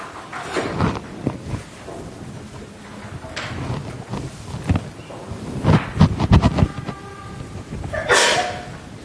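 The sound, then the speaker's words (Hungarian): A sudden sneeze bursts out during a geometry lesson amid a steady wash of rustling, shuffling background noise, with a few other short, scratchy thumps scattered around it and no one talking. “Egészségére.”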